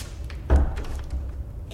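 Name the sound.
door being shut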